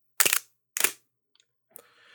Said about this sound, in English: So you should have heard a mirror slap, a leaf shutter click, and then you would hear the slap of the shutter coming back down to the camera body.